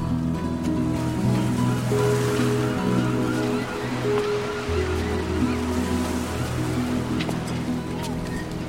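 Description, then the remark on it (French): Waves wash steadily along the seafront at the port of Granville, a continuous broad hiss of water with a low, droning hum underneath, moderately loud and unbroken throughout. “Tu vois, le front de mer, c'est le port de Granville, là.”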